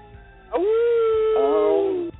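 A wolf lets out a long, loud, sustained howl lasting well over a second, with a second overlapping howl joining partway through before both cut off; no talking.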